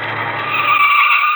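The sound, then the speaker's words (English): A loud, sustained tire skid squeals for over a second, with a low engine rumble underneath fading as a car pulls up at a street corner and comes to a stop. “And here comes a car.”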